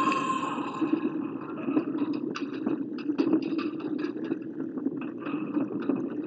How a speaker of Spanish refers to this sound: Percibo un movimiento de tierra. Hay que salir de la zona. ¡Es un terremoto!